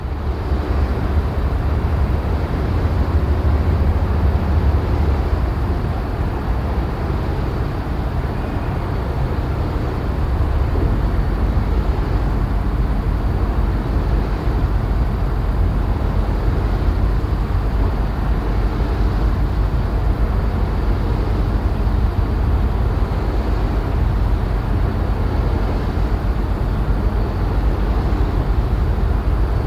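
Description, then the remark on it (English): A wind turbine about 10 meters away, recorded on grass on 16 December 2023 at 49.607046° N, 5.917317° E, gives off a steady, wheezing whoosh over a deep, continuous rumble, holding an even loudness for the whole half minute with no voices. “Mast bird calls in the background and wheezing wind turbine.”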